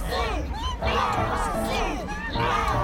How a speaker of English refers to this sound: Wow, this crowd is huge. There are so many fish and underwater mammals, and somehow one bird. Listen, they're chanting something.